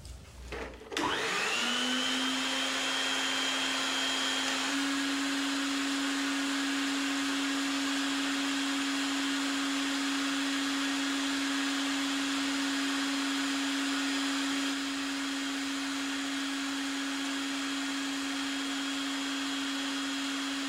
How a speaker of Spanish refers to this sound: Aspira, saca el humo despacio y ve la aspiradora a su lado. Toma el tubo de la aspiradora y mira al fondo. La enciende y empieza a exhalar el humo del cigarro dentro del tubo con precisión y cuidado.